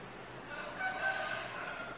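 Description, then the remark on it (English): A rooster crows in one sustained, strained call lasting the full two seconds, with faint background hiss and no speech. “There's our friend the rooster.”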